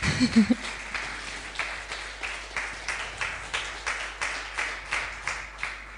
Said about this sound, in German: Und ich bin selber mit Lobpreismusik, also so wie wir sie heute Morgen gehört haben, das habt ihr wirklich fantastisch gemacht. Da dürft ihr gerne mal einen Applaus geben.